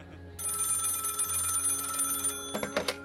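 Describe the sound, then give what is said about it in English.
An old-style telephone bell rings loudly and continuously for a couple of seconds, followed by a few shorter, sharper rattling bursts as the ring cuts off, with no voices; the phone of the National UFO Reporting Center ringing on a night of sky sightings. “But there was one other facility whose phone rang off the hook that night.”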